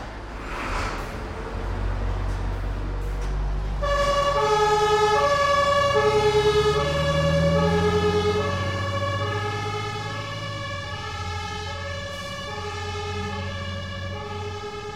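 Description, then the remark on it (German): A fire engine siren wails loudly and steadily in an alternating two-tone pattern as firefighters drive with blue lights to a fire, starting a few seconds in over the low rumble of a heavy truck engine. No one speaks. “Mit Blaulicht und Sirenengeheul fahren die Feuerwehrleute dorthin, wo es brennt.”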